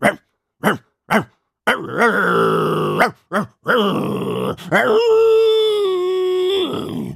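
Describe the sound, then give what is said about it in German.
A woman imitates a dog, baring her teeth: three short, sharp barks, then drawn-out, rough growls and a long, tonal snarling howl, loud with no other talking. “da streckte Frau Krüger den Kopf nach vorne, fletschte die Zähne und fing an zu bellen”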